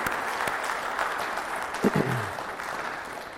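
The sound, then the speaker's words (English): An audience at Landmark claps together for the women on Mother's Day in steady, dense applause that holds at an even level throughout, with a faint low voice briefly audible near the middle. “Can you join me this morning and clap and tell these people, tell these ladies how much we love and appreciate them today.”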